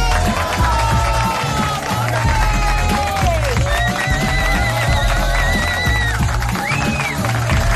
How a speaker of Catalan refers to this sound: Gràcies, moltíssimes gràcies per aquests aplaudiments tan espontanis. Bon dia a tothom des de la planta 15 al vell mig de la Diagonal de Barcelona.